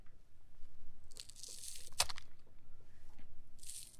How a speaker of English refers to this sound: She could tell that he was cutting them wrong just by the sound he was making when he was cutting. So first, let's play the sound of the wrong way to cut scallions, then we'll describe what's happening.